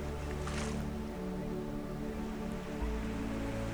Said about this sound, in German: Und du hörst die Wellen, wie sie ganz langsam an den Strand heranrollen und wie sie sich sanft wieder zurückziehen.